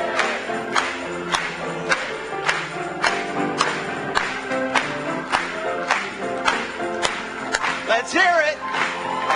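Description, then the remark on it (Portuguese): A church audience claps hands for the Lord in a steady, even rhythm, sharp beats landing roughly twice a second over a sustained hymn and music, with a voice rising near the end. “Batamos palmas para Ele hoje.”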